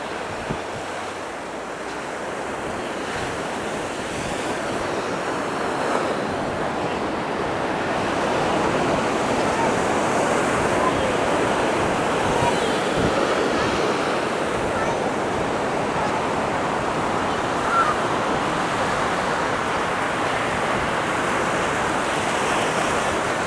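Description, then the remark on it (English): Ocean waves break and wash continuously onto the shore, a loud roar of surf with wind buffeting the microphone throughout, swelling slightly after the first few seconds. “The water almost just really got me there.”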